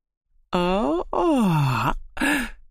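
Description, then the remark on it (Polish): A voice acts out the long, sleepy yawn of a story character stirring in his den: three drawn-out, groaning vocal stretches with pitch sliding down and up, fairly loud, no words spoken. “Ziewnął zaspany Jerzyk Igo i poruszył się w swoim legowisku.”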